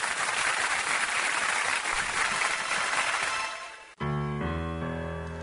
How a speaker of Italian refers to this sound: Oh, allora io direi scuro, mandiamo un sonoro applauso di incoraggiamento per la nostra Lisina, che non ne ha bisogno, è più un applauso di affetto.